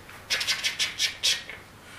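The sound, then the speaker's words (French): Cicadas chirping in the Middle East in a quick series of about six raspy, high-pitched pulses, fairly steady in rhythm, then fading out; no one speaks. “Qu'est-ce qu'on entend là, à ce moment-là? Les cigales, parce que c'est au Moyen-Orient, ah, oui.”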